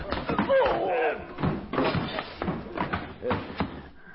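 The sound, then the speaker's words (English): A struggling fist fight as several attackers pile with their weight against one person at a door: a rapid series of heavy punches and dull body thuds, several blows landing in irregular bursts, with strained grunting voices mixed in. “He went back against the others, and I tried jamming to shut the door, but they piled back against me with a lot of weight, a lot of slugging, until finally...”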